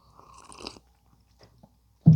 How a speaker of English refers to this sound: hold on, I'm going to actually take a quick sip of this coffee I just made. It's hot. It's the first sip of the day. It's my favorite sip of the day. Here it is.